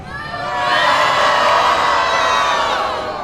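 A large crowd of students at a protest in Alaska cheers and shouts together, sending a message to the state legislature: a dense wash of many high, excited voices that swells quickly, holds loud and steady for a few seconds, then eases slightly.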